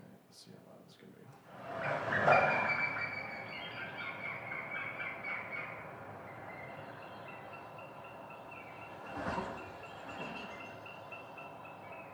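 A group of ducks flies past the microphones, their calls and rushing wings swelling loudly then fading away, with a second quieter pass moments later against a steady outdoor background.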